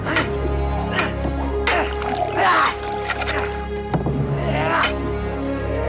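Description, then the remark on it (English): Water pours into a cup in short splashing bursts as Bowen pours himself a cup of water while parrying Einan's sword blows during a fighting lesson on ruined battlements, mixed with sharp knocks and clatter over a steady low drone. “Then Bowen pours himself a cup of water as he parries Einan's blows, holding the sword in his other hand.”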